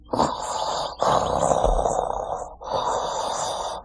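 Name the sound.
voice imitating loud snoring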